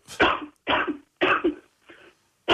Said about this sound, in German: Warte mal, ich muss nur kurz husten.